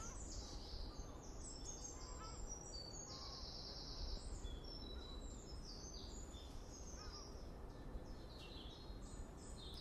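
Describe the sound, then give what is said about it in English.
Birds sing and chirp continuously in a busy outdoor chorus, many overlapping high calls and trills over a steady background hiss. “And let's just close with some wonderful bird song.”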